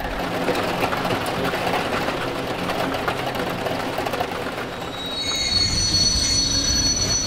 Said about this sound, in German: Was ich sehr schlimm finde, ist, wenn man am Bahnhof ist, auf dem Perron steht, dann kommt der Zug und er quietscht so unerträglich und man hat so die Ohren zu, aber es reicht irgendwie nicht.